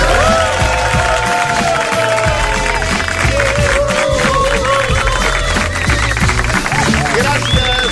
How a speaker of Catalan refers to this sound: Gràcies, molt amables, gràcies per aquests aplaudiments tan espontanis.